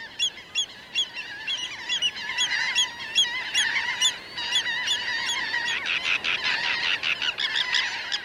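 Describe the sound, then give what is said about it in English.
A dense chorus of water birds calling at once on the Bolivar Peninsula, many overlapping honking and squawking voices forming a continuous, busy clamor with no pauses, steady throughout. “The Bolivar Peninsula is famous for its big flocks of water birds and for concentrations of migrating songbirds.”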